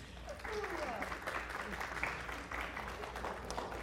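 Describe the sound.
An audience applauds steadily, a dense wash of many hands clapping at a moderate level for several seconds, with faint voices murmuring underneath.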